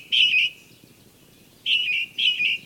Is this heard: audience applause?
no